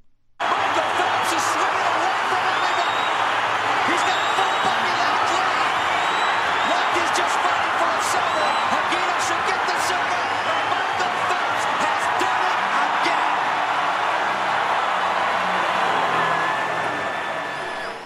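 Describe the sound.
A huge stadium crowd at the Rio de Janeiro Olympics roars and cheers continuously as Michael Phelps wins the 200m individual medley swimming final, heard via MBC broadcast: a dense wall of voices with scattered whistles and shouts rising above it, loud and sustained from start to finish.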